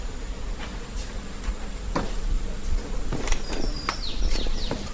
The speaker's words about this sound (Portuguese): Escutou o macaco subindo?